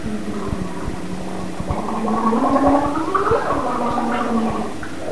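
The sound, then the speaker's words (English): A child in a booster chair blows into a drink through a straw: a steady bubbling gurgle, continuous for several seconds with rapid rattling pulses and a slowly rising, wavering pitch. “It's like you're bubbling. How do you know you're drinking out of a straw?”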